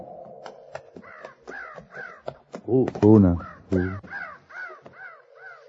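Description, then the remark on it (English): Crows caw repeatedly in a steady, overlapping series of harsh calls in a canyon at sunset. A man's voice briefly breaks in partway through while the cawing continues around it. “Those crows ain't flying.”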